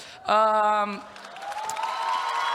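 A short, loud sustained tone gives way to audience applause, a dense crackle of many hands clapping that builds steadily and continues to the end.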